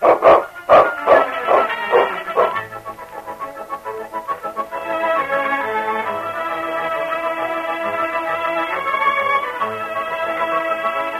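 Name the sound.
dog barking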